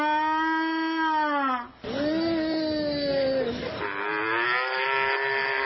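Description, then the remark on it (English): Contestants at Moolapalooza, a mooing contest at the state fair in West Allis, Wisconsin, imitate cows, drawing out long, loud moos one after another, each a sustained, slightly wavering low call with a brief pause between, clear. “A world away in West Allis, Wisconsin, a mooing contest at the state fair.”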